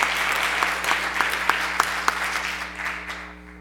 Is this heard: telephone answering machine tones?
no